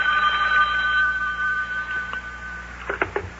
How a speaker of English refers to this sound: Uh-oh, telephone's ringing.